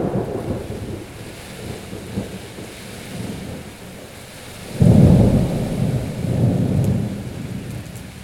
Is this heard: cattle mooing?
no